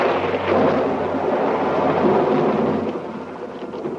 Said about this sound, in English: And we hear thunder.